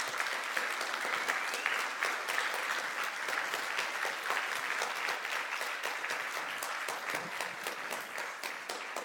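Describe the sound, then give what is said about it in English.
Sustained audience applause at Calvary Church fills the whole stretch, a dense, steady clatter of many hands clapping at an even loudness with no voices standing out. “Can you applaud for them?”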